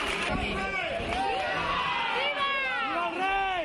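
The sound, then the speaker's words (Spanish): A crowd cheers and shouts "¡Viva!" for the King together, many raised voices overlapping in rising and falling chant-like calls, steady and loud across the whole stretch with no single voice standing out, during the King and Queen's visit to the areas hardest hit by the DANA flood. “Vivas al rey, que vuelve por tercera vez en estas tres semanas desde que se desató la riada.”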